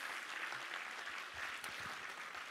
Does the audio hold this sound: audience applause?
yes